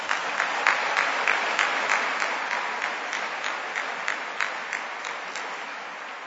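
An audience applauds steadily for several seconds, a dense wash of clapping with sharper individual claps popping out in an irregular rhythm, holding at a fairly even level before easing slightly.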